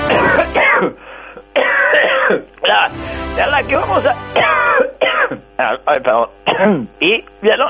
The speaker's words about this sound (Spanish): ¿Vieron que pueden escuchar a alguien toser sin sobresaltarse?